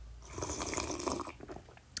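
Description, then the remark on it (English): A wet, drawn-out slurp of hot coffee, a continuous airy sucking sound with liquid gurgles, swelling and ending in a brief gulp. No one speaks. “And do you want to hear the slurp?”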